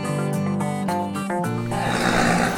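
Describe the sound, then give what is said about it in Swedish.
A small horse with an injured leg neighs loudly, a long whinny with wavering, breaking pitch that turns rough and breathy toward the end. No voices accompany it. “Ja, det var välkomstkommittén. Det här är en liten häst som har skadat sitt ben.”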